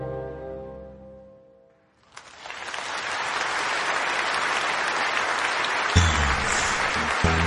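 Sustained audience applause bursts in after a song accompanied by an orchestrion, a dense wash of clapping from a large crowd that stays loud and steady to the end.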